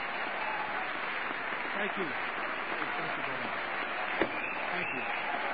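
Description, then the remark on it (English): Sustained, dense applause and a standing ovation fill the House chamber as the President enters, steady and loud throughout, with crowd voices mixed in and a single sharp knock as the Speaker of the House gavels the crowd near the end. “The Speaker is attempting to gavel the crowd.”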